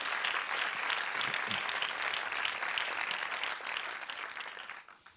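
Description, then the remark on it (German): A church audience breaks into steady, dense applause for the people who run the technical equipment every Sunday, many hands clapping together in a continuous wash that holds for several seconds before thinning and fading out at the end. “Vielleicht geben wir nochmal den Leuten einen kräftigen Applaus, die hier das Sonntag für Sonntag machen.”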